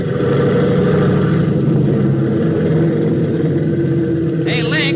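The engine of a Conestoga airplane being tuned up revs with a loud, steady, throbbing drone full of low harmonic hum, holding an even pitch throughout, with a brief higher-pitched warble breaking in just before the end.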